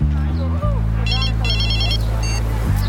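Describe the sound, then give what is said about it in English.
A phone's electronic ringtone trills in rapid bursts of high beeping pulses, clear, over a steady low droning background hum. “Someone answer the phone.”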